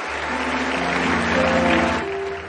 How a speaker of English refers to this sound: Why don't you give a clap offering?